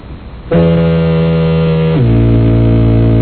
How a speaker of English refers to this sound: Here is foghorn. I like that. We don't have one like that. That is nice. Can we play that one again? I'd love to hear that one.